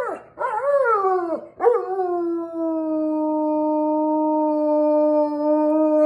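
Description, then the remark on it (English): A dog, given the command to speak, lets out two quick, rising yelping barks, then settles into one long, steady howl that holds loudly to the end, with no one talking. “Speak, bud.”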